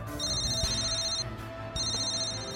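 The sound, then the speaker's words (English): A telephone rings in two bursts of bright, high electronic tones with a short pause between, clear over a low background hum, as a call comes in during the early morning hours. “In the early morning hours, after a tense and sleepless night, Major General Lazaro received a call.”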